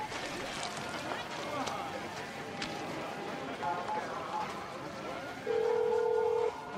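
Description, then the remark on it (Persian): An answering machine beep: one steady, mid-pitched tone lasting just over a second, sounding loud and clean after several seconds of busy background noise with faint voices. “بعد از شنیدن صدای بوق پیغام بزنید.”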